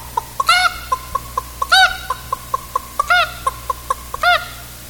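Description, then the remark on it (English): Hens cackle and cluck in a steady rhythm after laying their eggs and coming back down from the hen house, short clucks punctuated about every second by four louder, drawn-out squawking bursts, with no one talking. “and you'd see them one by one file up into that hen house, and after they'd get through laying their egg, they'd come back down, and they'd all be, I think they'd sound more relieved than anything.”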